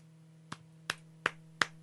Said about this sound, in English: Feels a little awkward for me to be applauding this right now.